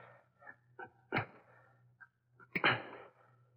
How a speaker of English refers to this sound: Police dogs. I've got to quiet them quickly.